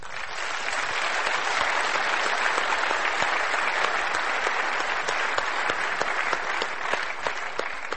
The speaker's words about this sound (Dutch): Zullen we ze een applaus geven?